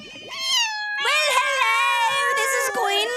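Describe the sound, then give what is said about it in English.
Cats meow loudly: a short cry, a brief pause, then a long, wavering, drawn-out yowl that continues to the end. No purring can be made out. “Do you hear them purring?”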